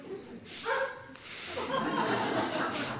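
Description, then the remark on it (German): A dog gives a short bark or yelp, followed by a few seconds of noisy, rustling room sound. Nobody speaks. “Zur etwas Belebung dieses Vortrags ist ein Bellen hilfreich und unterstützend.”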